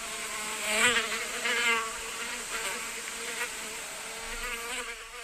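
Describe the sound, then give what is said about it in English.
A fly buzzes continuously, its droning hum wavering in pitch and swelling louder and softer as it moves around, with no voices present. “And that was ….”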